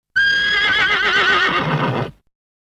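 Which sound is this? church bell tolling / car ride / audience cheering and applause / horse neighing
horse neighing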